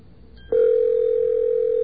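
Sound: cell phone ringing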